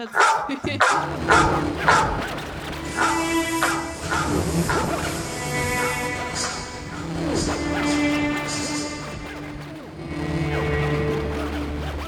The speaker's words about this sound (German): Hat nicht so wirklich funktioniert mit dem Hund, oder? Der Hund war zu leise.